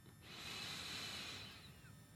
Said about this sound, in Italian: Seguitemi pure, lo facciamo insieme, dentro dal naso, trattengo, sempre rilassando le spalle, rilassando la mascella, rilassando il viso, fuori dalla bocca con un sospiro.